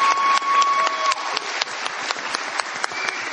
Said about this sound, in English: you come on down and you guys give her a round of applause. She's cool.